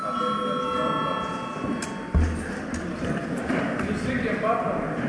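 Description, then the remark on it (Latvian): A steady, high electric bell rings continuously for about two seconds in the Latvian Saeima (parliament) to call a session break, then cuts off and gives way to a murmur of many voices and shuffling movement. “Ir pienācis arī laiks pārtraukumam, līdz ar to lūdzu zvanu.”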